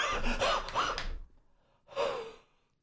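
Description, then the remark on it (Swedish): A person imitates someone panting heavily while eating: a run of rapid, breathy huffs, a short pause, then one more long rasping breath, fairly loud. “Men ändå så kommer det rätt vad det är ett väldigt flåsande istället.”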